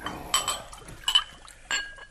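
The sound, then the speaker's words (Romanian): Three bright glass clinks ring out, spaced about a second apart, with faint liquid sounds in between, as wine is poured into glasses for a toast. No one speaks. “Dar mai întâi să luăm câte un rubiniu.”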